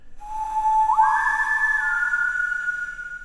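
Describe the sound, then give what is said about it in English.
A clear whistled phrase of three notes, whistled alone through the wooden slats of a closet door: a steady low note, then a jump to a higher held note that eases down slightly before fading, with no talking. “One low note, one high, and one in the middle was whistled across the wooden slats.”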